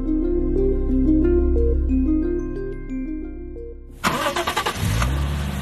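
car engine starting

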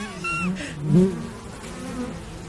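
swarm of honeybees buzzing

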